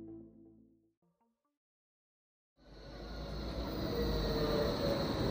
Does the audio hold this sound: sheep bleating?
no